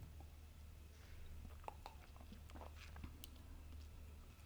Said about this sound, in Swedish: Ja, ska vi ta en klunk? Ja.